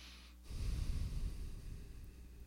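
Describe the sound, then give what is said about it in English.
A steady nasal inhale of alternate nostril breathing, part of the Kasab practice, rushes through the nose for about two seconds, airy and slightly rough, with no talking around it. “That's the alternate nostril, breathing left to right, right to left, and then in and out both nostrils.”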